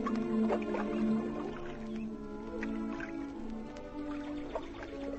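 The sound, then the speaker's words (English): Gentle water lapping and sloshing against the warm, sunny, grassy bank of North Lakes, with soft irregular drips and splashes, steady and fairly quiet throughout with no voices. “Look, sit back comfortably, relax, and come with KG, Ashley, and me to the warm, sunny, grassy banks of North Lakes, with the birds twittering and the water lapping.”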